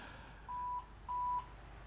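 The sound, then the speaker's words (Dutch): Two steady electronic beeps at a mid-high pitch, each lasting about a third of a second with a short gap between, sounding clearly over a faint background hiss. “Ja, ik hoor hier allemaal piepjes.”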